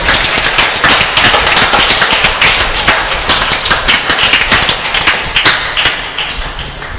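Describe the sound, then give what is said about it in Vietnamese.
A parish audience claps steadily for several seconds to congratulate the bishop and priests on a great celebration day at church, a dense, loud wash of overlapping handclaps with sharp individual smacks poking through, tapering off slightly at the end. “Một lần nữa xin cộng đoàn cho chàng vỗ tay chúc mừng ngày vui trọng đại hôm nay.”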